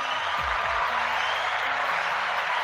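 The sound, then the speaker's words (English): Steady, dense audience applause fills the whole stretch, a broad wash of many hands clapping at an even loudness, with a couple of low thumps near the start. “The double applause.”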